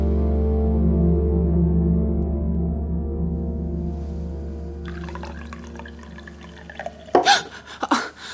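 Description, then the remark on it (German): Water runs from a tap into a glass, a steady stream whose pitch slowly rises as it fills, followed by a couple of sharp knocks near the end. “Ich hole mir noch ein Glas Wasser und dann probiere ich noch mal mein Glück.”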